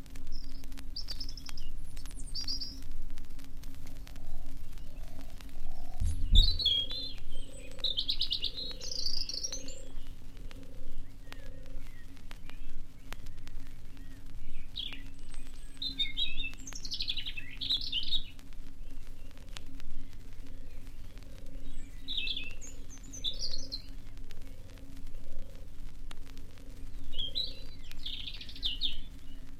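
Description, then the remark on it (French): A European robin sings high, tumbling warbled phrases in bursts separated by short pauses, while a soft, steady low cooing repeats in the background over a faint constant hum. “Mais le rouge-gorge, lui, chantait fièrement depuis déjà plusieurs semaines.”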